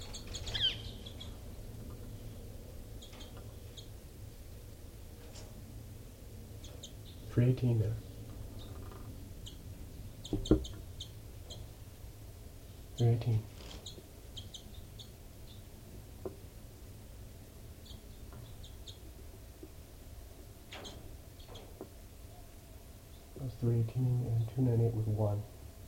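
Two captive birds in cells, numbered 318 and 298, give a few short, throaty calls at irregular intervals, with faint high chirps scattered between them over a steady low background hum.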